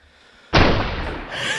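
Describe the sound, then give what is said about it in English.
A single loud gunshot sound effect cracks out suddenly after a brief quiet moment, followed by a long, rumbling echo that lingers and slowly fades without any talking. “Oh, we are doing gunshot or turn him to glue.”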